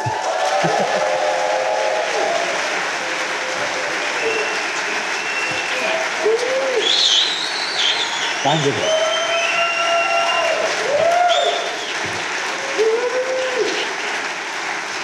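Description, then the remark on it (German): Sustained applause from a live audience fills the whole stretch, loud and dense with steady clapping, while a man speaks briefly over it, at the end of a show's first live broadcast in front of an audience. “Und ich könnte schwören, die sind jetzt lauter als am Anfang.”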